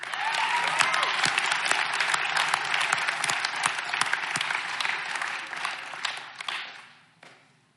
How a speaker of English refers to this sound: And one more round of applause for the people in the congregation that have given graciously of their time and money to make sure that this goes off.